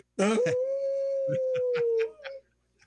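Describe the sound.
A person imitates a wolf on the radio show Native Roots Radio, during a segment supported by Howling for Wolves, with one long, loud, steady howl lasting about two seconds, rising slightly at the end, with brief bursts of other voices breaking in partway through.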